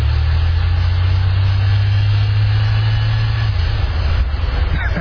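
A car engine runs steadily with a deep, continuous low rumble, loud, heard from inside the car as two people get in and ride, with no speech over it.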